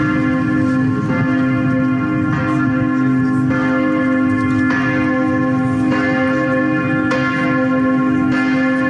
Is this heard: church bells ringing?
yes